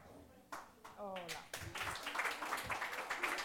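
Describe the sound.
Audience applause begins with a few scattered claps, then swells into dense, steady clapping from many hands. A brief voice cuts in near the start.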